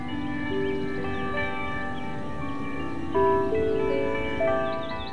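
Clock tower bells chime the hour in a slow sequence, each struck note overlapping the long, humming decay of the previous ones, loud and resonant with no voices present.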